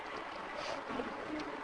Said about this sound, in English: A few more waves. A little bit of wind.